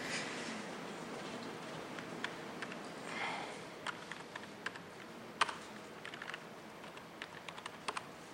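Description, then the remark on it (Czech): Irregular typing on an unfamiliar computer keyboard, slow and hesitant, with scattered sharp key clicks and a faint breathy sniff partway through, as a line is added to a configuration file; no one speaks. “Já se omlouvám, nejsem zvyklý na tuhle klávesnici, takže to bude pomalejc.”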